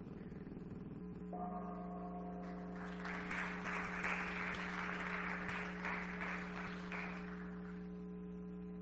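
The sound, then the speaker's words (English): A gong struck between speakers' talks at a physics lecture session rings out with a long, steady low hum that lingers throughout, while a burst of applause swells over it in the middle and then fades away. “I figure Gary wants to get his money worth out of the gong.”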